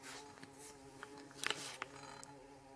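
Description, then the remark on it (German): A bumblebee buzzes faintly around a studio, a low steady drone with a brief louder pass in the middle, heard alone. “Wir haben eine Hummel im Studio, meine Damen und Herren. Man hört sie.”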